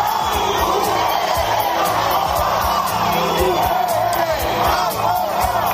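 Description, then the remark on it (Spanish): Hundreds of people on Calle Curia in Pamplona during the San Fermín procession shout and chant in unison at the passing city council while throwing objects, a dense, loud roar of many voices with rhythmic pulses running steadily throughout, continuous. “Mientras la corporación municipal avanzaba por la calle Curia de Pamplona, cientos de personas han empezado a gritarles y a lanzarles objetos al grito de UPN Campora.”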